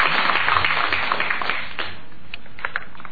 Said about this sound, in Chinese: 好，咱各位掌声。